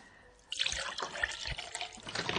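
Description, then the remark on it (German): Liquid pours steadily into a glass in a studio, a bright splashing rush that starts abruptly and continues with gurgling bursts, with no voices. “Möchtest du auch einen Schluck?”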